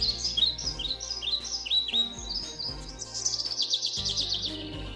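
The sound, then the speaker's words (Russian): Soft, steady birdsong plays from an alarm clock: repeated bright chirps and warbling tweets in a continuous pleasant stream, with a faint electronic hum underneath and no talking. “Рекомендую, вот чтобы птички пели.”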